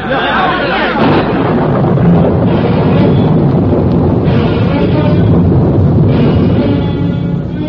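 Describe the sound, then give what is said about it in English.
A great thunderstorm breaks loose as an audience bursts out of a church, with rain pouring down in a solid stream, loud, continuous roaring wind and deep rumbling thunder, filling the whole scene without a pause, heavy throughout. “As the congregation burst out of the kirk, the storm cut loose.”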